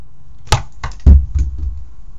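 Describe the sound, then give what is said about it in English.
A phone clatters as it is dropped, then several quick knocks and fumbling thuds follow as it is handled, with one heavy low thump in the middle of the sequence. “I dropped the phone.”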